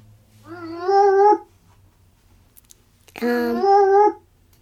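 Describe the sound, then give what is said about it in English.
An eerie sound effect of an alien appearing out of nowhere: two loud, wavering, howl-like tones, each about a second long, separated by a short pause, with no talking. “That's supposed to sound like an alien appearing out of nowhere.”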